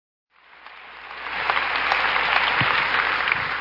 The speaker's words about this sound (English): we clap because of the truth of that song. And the truth of that song is your Redeemer lives.